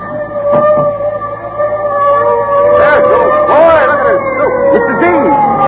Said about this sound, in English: Listen. The fire engine. Hey, I gotta see it.